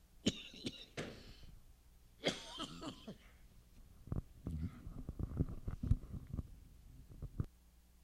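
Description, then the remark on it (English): A person speaking during a sermon gives a series of harsh coughs and throat clearing, several bursts in quick succession with short pauses between, followed by smaller rasping clears and faint shuffling sounds. “Unless you want to hear me coughing for an entire sermon.”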